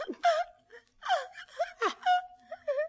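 Someone sobs and whimpers in a series of short, gasping, wavering cries separated by brief breaths, with no words spoken.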